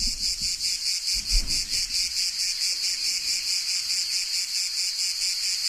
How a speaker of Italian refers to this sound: Bene, io direi che possiamo partire con le cicale per dare il via a questo radiodramma che si intitola Due all'imbrunire.